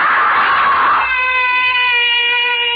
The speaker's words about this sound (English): Why am I screaming? Just a dream. I'll stop screaming.